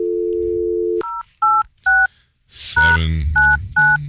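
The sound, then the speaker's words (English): A steady dial tone gives way to a quick series of touch-tone beeps as a telephone number is dialed, about six short dual-pitched tones punched in a loose rhythm, loud, with a brief rustly clatter mid-sequence. “I'm going to call you live on the air.”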